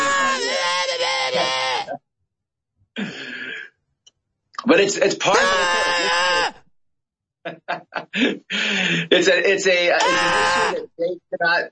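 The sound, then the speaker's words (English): A person loudly imitates someone screaming down a phone line, with long strained, bleating yells broken by short pauses and a few spoken words. “I was just trying to do an impression.”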